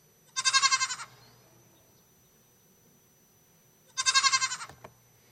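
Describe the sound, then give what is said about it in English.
Goats bleat twice, each call a short, quavering, nasal cry, the second following after a few seconds of quiet. The calls are clear over a faint low background hum. “Wherever there are sheep, there are usually goats.”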